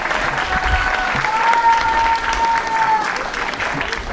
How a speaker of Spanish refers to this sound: Aplauso, compañeros y compañeras.